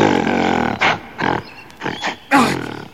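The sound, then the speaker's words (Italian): A giant gorilla roars loudly: one long, rough bellow, then a series of shorter guttural roaring bursts, ending in a final powerful howl that trails off. No one speaks. “Guarda davanti a noi! Un gorilla gigantesco!”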